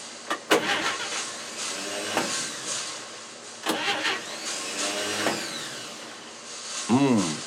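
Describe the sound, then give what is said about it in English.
A car engine is cranked over several times with whirring, sputtering bursts and sharp clicks, but it never settles into a steady idle. The sound is loud. “I'm having a few problems with the car. I can't seem to start it. Let's try.”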